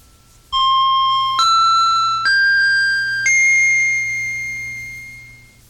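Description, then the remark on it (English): Four bright chime tones ring out one after another in a rising sequence, each clear and resonant, the last note sustaining and slowly fading over a faint low hum; the opening chimes of a hypnosis therapy session. “After you hear the opening chimes, you will enter into deep hypnosis within 30 seconds, or if you prefer, 60 seconds.”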